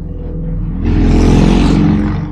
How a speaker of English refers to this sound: Motorcycle. And that's when Chris took off on his cycle.